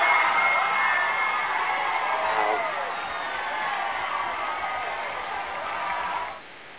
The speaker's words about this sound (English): They all cheered because he said MF. Some people actually applauded him for saying that.